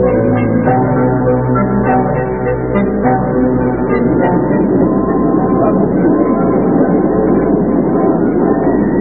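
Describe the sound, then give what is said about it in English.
A passenger train rolls steadily along the rails, a continuous rumble with clattering wheel noise and a muffled quality, unbroken for the whole stretch. “Miss, I am getting off the train here.”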